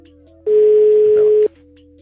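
A single steady electronic ringback tone sounds for about one second as a call is placed to a phone sent out somewhere in the country, loud, with low background hum before and after.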